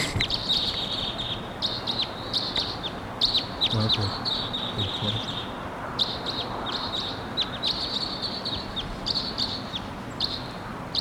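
bird, crossbill calling

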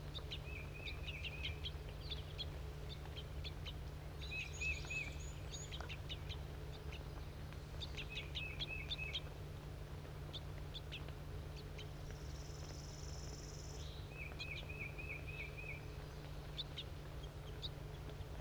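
bird, juvenile bird begging calls

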